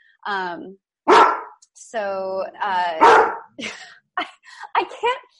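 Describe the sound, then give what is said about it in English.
A dog barks in a burst of several sharp, loud barks mixed with drawn-out, whiny yelps, coming in an irregular rhythm over a few seconds. “Well, hopefully people could still hear me or the sound of the barking dog.”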